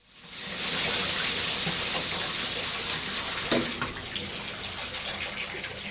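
A steady rush of shower water runs continuously, a dense hiss with one brief knock partway through, and no voices.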